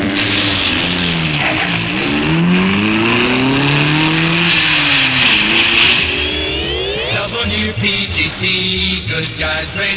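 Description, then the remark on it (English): A race car engine revs loudly and continuously as it goes around a bend at 195 an hour, its pitch climbing and dropping in repeated sweeps as it shifts through gears, with no voices over it. “Around that bend. Here we go at 195 an hour.”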